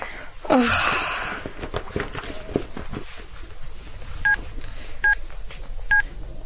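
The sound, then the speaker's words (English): Three short, evenly spaced telephone keypad tones beep clearly over a noisy background as someone dials to phone their mum, following a brief rustle and breathy sounds at the start. “Look, I promise I'd phone my mum straight away.”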